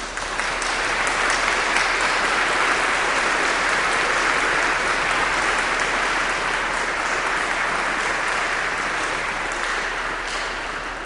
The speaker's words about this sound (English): They're doing a spiritual journey, and it really deserves, I think, an incredible round of applause. So how about it for them?